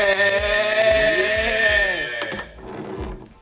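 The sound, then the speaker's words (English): A bright, shrill bell rings continuously for about two seconds, rich with metallic overtones, over a steady low thumping beat that keeps going faintly after the ringing cuts off. “And today, people, let me ring the bell one more time.”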